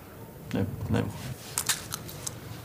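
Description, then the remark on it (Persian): Someone cracks and munches sunflower seeds: a couple of soft crunchy bites, then a quick run of sharp little shell cracks, with no talking. “تخمه داری؟ بده یه ذره بخورم.”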